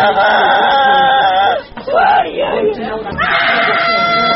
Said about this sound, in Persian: اما داخل ساختمان نیمه ویران شده بیمارستان دیگر صدایی به جز صدای گریه و ناله کودکان که از درد و زجر ناشی از زلزله رنج میبرند به گوش نمیخورد.